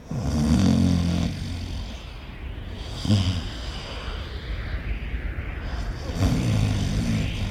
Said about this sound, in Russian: Сел он усталый, прислонился к перилам и уснул. Братья его в доме спят, кони в высокой траве бродят, а сам Юман-Батор на мосту храпит.